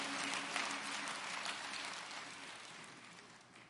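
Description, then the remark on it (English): A church audience gives a hand clap of praise to the Lord in a dense, steady burst of applause that slowly fades over a few seconds, with no voices rising above it. “Let's just give him another hand clap of praise.”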